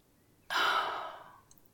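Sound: yawn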